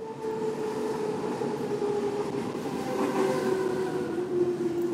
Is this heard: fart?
no